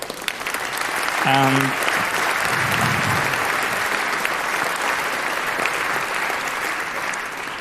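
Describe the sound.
Steady audience applause fills the whole stretch, a dense wash of clapping that swells early and holds loud, with a brief harmonic voice-like tone or cheer near the start.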